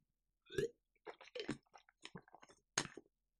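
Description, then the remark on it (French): Wet mouth sounds of someone taking a sip of Playendurance: a short slurp followed by a series of clicking, squishy swallows and gulps, fairly loud and with no talking. “Je reprends une gorgée de Playendurance.”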